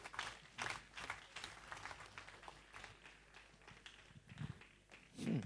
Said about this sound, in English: Oh, give the Lord a super clap offering.